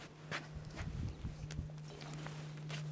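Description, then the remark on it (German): A handful of irregular hoof thuds and scrapes as two horses shift their weight on hard ground while being harnessed to a carriage pole, over a steady low hum, with no one speaking. “So, dann haben wir hier unsere Leine. Brauchen wir auch bei beiden Pferden.”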